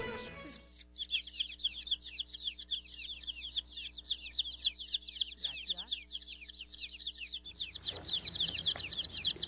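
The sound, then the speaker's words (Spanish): Dozens of baby chicks, guests in the Radio Ombligo booth, peep continuously in dense, overlapping high-pitched chirps, loud, with a low steady hum beneath and a brief lower call partway through. “Oh, gracias, gracias, queridos pollitos.”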